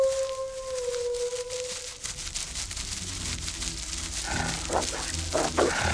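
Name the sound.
wolf pack howling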